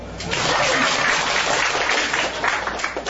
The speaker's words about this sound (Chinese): 你说是不是？是就鼓掌。